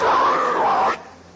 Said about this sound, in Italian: almeno con questo metodo, a soffiarti il naso? Ah sì, così, vuoi sentire? Vuoi sentire?